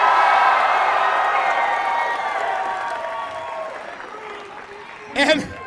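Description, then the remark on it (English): A crowd claps and cheers with whoops to thank the Lansing PD and Michigan State Police, loud at first and gradually fading over several seconds before a single voice briefly cuts in at the end. “Clap for them!”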